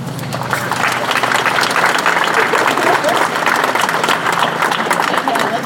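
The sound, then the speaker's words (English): A crowd on a campus applauds RSS, NPHC and PSM, clapping steadily for several seconds in a dense, loud wash with scattered voices and cheers mixed in throughout. “Give them another round of applause to RSS, NPHC, PSM.”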